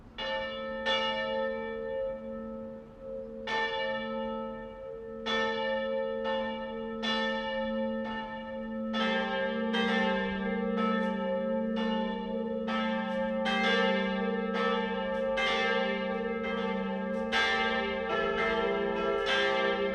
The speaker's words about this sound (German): BR Heimat, 12 Uhr läuten. Es ist 12 Uhr. Das Mittagsläuten kommt heute von der katholischen Stadtpfarrkirche St. Jakob im oberpfälzischen Mitterteich.